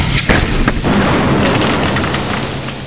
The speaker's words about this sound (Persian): قبل از این که RPG رو شلیک کنیم، تانک به ما شلیک کرد.